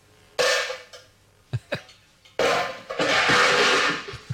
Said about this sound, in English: You've been banging on your pots again, haven't you?